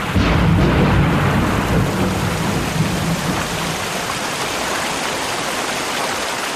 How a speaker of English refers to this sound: One day in the mountains, I sought shelter from an approaching storm. All of a sudden, there was a lightning flash, and few moments after, deluge.